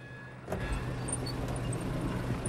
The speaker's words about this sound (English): He winds the window down.